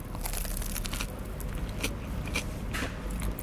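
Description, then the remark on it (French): Crisp crunching as someone bites into a toasted grilled cheese sandwich with perfectly golden bread, with several sharp crackly bursts over a few seconds and no talking. “Je croque.”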